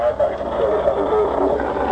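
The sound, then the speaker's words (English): Muffled, crackly studio talkback between the studio and the transmitter room upstairs runs steadily throughout, its garbled voices blurred into a hissing, band-limited wash much like radio interference, at a fairly constant moderate level. “The interference you can hear in the background, you might think it's interference, it's not actually, it's a talk back in the studio, between the studio and the transmitter room upstairs.”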